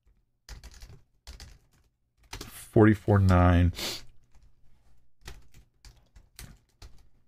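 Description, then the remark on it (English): Quick computer-keyboard typing of the Bible reference Ezekiel 44:9 comes in short bursts of clicky keystrokes, pausing midway for a brief voiced murmur before the tapping resumes and continues to the end. “Sorry, I'm just typing it wrong.”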